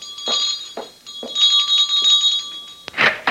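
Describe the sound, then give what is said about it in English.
A door bell rings insistently: a bright, high metallic jangle sustained throughout, pulsing in quick repeated strokes, loud and alone with no voices. “How damnably long does it take you to answer the door?”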